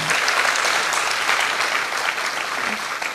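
An audience claps steadily throughout, a dense, continuous patter of many hands that stays loud and even from start to finish, with no one speaking over it.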